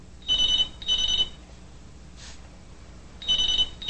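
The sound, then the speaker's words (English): A telephone rings in short bursts of bright, warbling trills: two rapid rings close together, a pause, then another ring starting. Clear, with no talking. “Keeping her head on her pillow, Susie reaches for the phone.”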